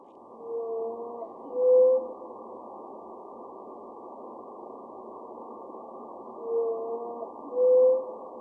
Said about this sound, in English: How is that song different than the songs of other blue whale populations? So this song has only two notes, which you heard, the bum-bum. And that is one of the distinct parts of it.